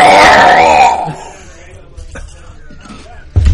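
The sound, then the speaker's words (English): A voice imitates a Wookiee roar: one loud, warbling, throaty howl lasting about a second, followed by near-quiet with a few faint clicks and a soft thump at the end. “I think I need a Wookiee roar here.”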